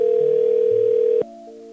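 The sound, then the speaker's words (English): A steady, loud telephone dial tone hums for just over a second, then cuts to a quieter tone with a brief click as the call goes out. No one speaks. “I'm going to give them a call and ask them why their house is blurred out.”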